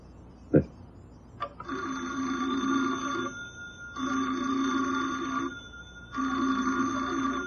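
An old telephone bell rings three times in long, steady bursts separated by short pauses, fairly loud, with a brief knock just before the first ring, in a small-town country store.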